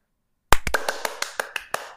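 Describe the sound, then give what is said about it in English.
After a moment of silence, hands clap in a quick, fairly steady burst of about nine sharp claps, the first loudest and the rest a bit softer. No one speaks. “You ruined my clapping. Now I have to do it again.”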